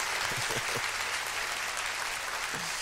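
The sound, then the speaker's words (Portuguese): An audience at a church service applauds the Lord and his word, a dense wash of many hands clapping at an even level throughout, with a few faint voices rising briefly beneath the clapping. “Aplauda ao Senhor e a sua palavra.”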